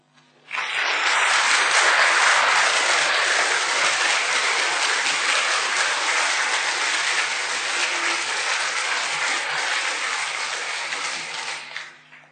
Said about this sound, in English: invite them to come forward and so that we can give them a round of applause.